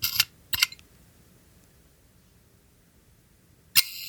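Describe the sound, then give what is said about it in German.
Crisp mechanical camera shutter clicks: two sharp snaps about half a second apart, then a long quiet pause before a third bright click near the end. No one speaks. “Machst du nochmal den Auslöser?”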